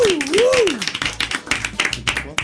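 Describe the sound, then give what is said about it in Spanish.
Scattered, irregular applause of several people clapping at a moderate pace for working women on Women's Day, opening with a brief swooping whistle-like tone that rises, dips and rises again before fading. “Un aplauso para todas las mujeres trabajadoras.”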